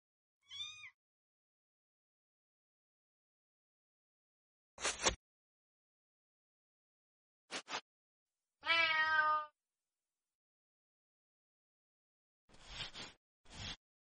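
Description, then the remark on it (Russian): A cat meows several times with long pauses between calls, mostly short chirpy meows and one longer, drawn-out wail in the middle, clear with no one talking. “Спокойной ночи, дорогие кошки.”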